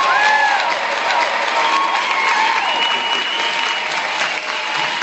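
A crowd applauds loudly and steadily, dense clapping filling all five seconds without a break, with a few faint whoops or whistles rising above it.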